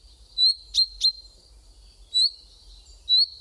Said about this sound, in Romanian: Putem face oricând cunoștință cu cântărețul familiei, cinteza.